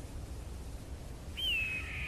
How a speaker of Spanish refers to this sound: Y al elevar la mirada hacia el cielo azul, observas que es un águila que sobrevuela por el desierto, extendiendo sus grandes y plumadas alas. El águila vuela libre y majestuoso.